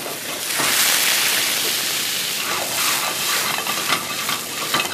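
Pasta water is poured into a hot pan to stop its contents cooking before they burn, hitting it with a loud, steady hiss of sizzling steam that runs the whole time, flecked with small crackles and pops toward the end. No one speaks.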